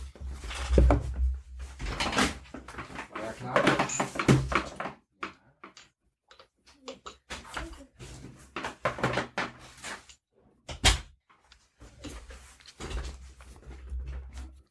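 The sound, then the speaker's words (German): A door is handled and opened after someone rings at the door, with a run of clunks, rattles and knocking bumps spread over several seconds, separated by short quiet gaps. “Und jetzt klingelt kurz an der Tür.”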